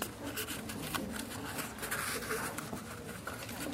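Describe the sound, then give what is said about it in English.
Crinkly, crackling rustle of a sheet of paper being rolled up, a steady stream of small dry crackles with brief louder bursts throughout. “Okay, I want you to take the piece of paper and I want you to roll it up like this.”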